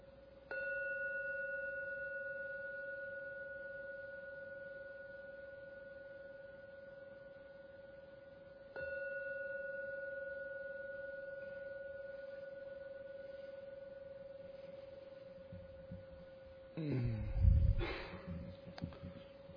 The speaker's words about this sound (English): So I'm now going to ring the gong 3 times to end the meditation. At the end of the 3rd ringing of the gong, you may open your eyes to finish today's meditation session.